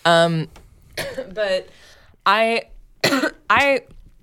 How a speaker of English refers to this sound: Was that a dry cough? Are you okay? I have a dry cough.